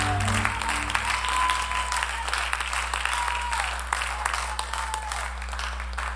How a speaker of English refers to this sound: Why don't we give God a hand clap of praise tonight?